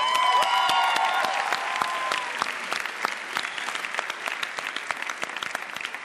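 An audience claps together in a dense burst of applause, loud at first, with a few high whistle-like tones early on, then thinning into scattered individual claps toward the end.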